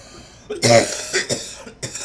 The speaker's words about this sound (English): There's the coughing, which is, of course, Jake Mom's favorite part of this show.